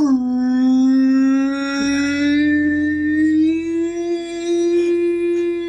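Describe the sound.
During shaking, a voice imitates a tornado siren with one long, loud, steady wail that rises slowly in pitch and holds for several seconds without a break.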